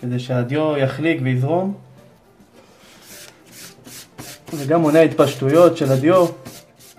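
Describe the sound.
Rhythmic, scratchy sanding strokes rub across parchment, several quick passes heard close up, alone for a moment and then continuing beneath a person speaking.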